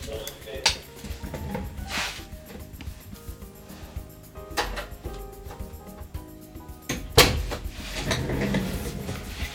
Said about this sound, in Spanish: Un segundo, vamos a cerrar la puerta para que no se escuche.